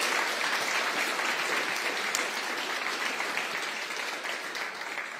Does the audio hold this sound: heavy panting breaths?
no